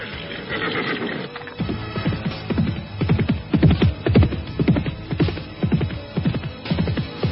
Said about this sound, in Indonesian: Itu Tuan Muda Mus'ab. Dia telah pergi dengan kudanya.